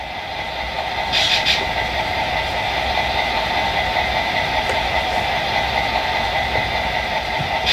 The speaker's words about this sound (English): So now what you hear is my freight train Milwaukee Road engine idling.